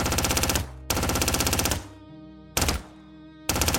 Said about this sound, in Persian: اونا شروع کردن به شلیک با مسلسل.